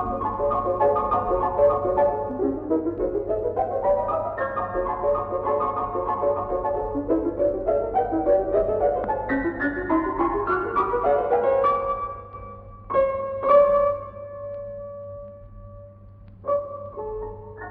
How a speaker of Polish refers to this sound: Ale posłuchajmy teraz fragmentu oryginalnej wersji, tym razem na fortepian.